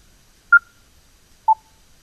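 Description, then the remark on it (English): Two short electronic beeps from a device as a button is toggled on and off to change the processor input level setting, about a second apart: the first a higher-pitched tone, the second slightly lower, each clean and brief against near silence. “I'll let you hear that and the beep that you get with the corresponding changes as you toggle this button on and off.”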